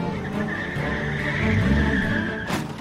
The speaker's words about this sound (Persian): چمچره خودشو قایم میکنه، ماشینشو روشن میکنه و راه میفته که اونها رو تعقیب کنه.